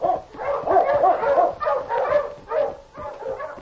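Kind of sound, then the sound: animal, sled dog barking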